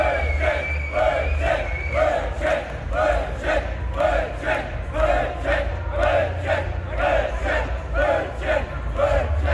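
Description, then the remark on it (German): A large festival crowd chants the word "Brötchen" over and over in a steady, quick rhythm, many voices shouting together loudly above a constant low rumble. “Und dann hat sich so nach hinten einmal durchgebellt. Diese schöne Dynamik auf Festivals.”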